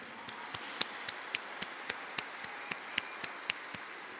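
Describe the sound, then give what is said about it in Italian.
Audience applause for the journalists and communication workers present, a soft wash of clapping with sharp, evenly spaced claps standing out in a steady rhythm, moderately quiet. “Un applauso a tutti i giornalisti.”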